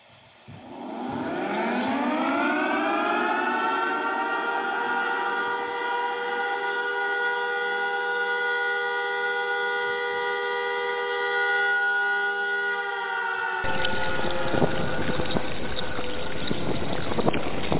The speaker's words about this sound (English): That's my fruit bat alert. That means I'm going to the phones.